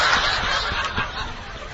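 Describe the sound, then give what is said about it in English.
An audience of men and women loudly imitate rooster crowing all at once, their overlapping calls blending into a dense, raucous din with some snickering mixed in. “Even the females are cawing like roosters tonight.”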